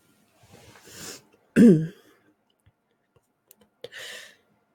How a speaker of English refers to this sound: Here's a cough.